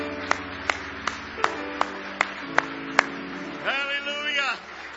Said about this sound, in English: Are you on the Lord's side? Give Him a big hand clap of praise tonight.